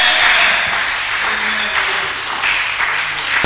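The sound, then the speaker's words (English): A crowd claps loudly and continuously as a clap offering during a sermon, a dense, steady wash of applause with no one speaking over it, lasting a few seconds. “Can I hear a big amen with a mighty clap offering from you?”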